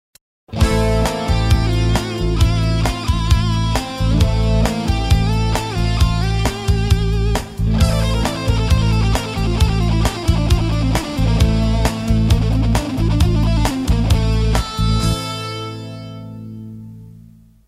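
A Phrygian scale played melodically on a keyboard-like instrument over a sustained low A minor tonic chord, notes moving steadily for about fifteen seconds before ringing out and fading. No voices.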